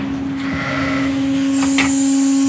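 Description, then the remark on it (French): A large red farm feeding machine marked Altec moves along its rail feeding ewes, dropping grass and pellets, with a loud, steady mechanical drone, a strong low hum with whining overtones and a couple of brief hissing bursts toward the end. No one speaks. “Une grosse machine rouge avec marqué Altec.”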